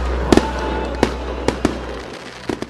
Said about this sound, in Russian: Завершился зимний праздник традиционным фейерверком.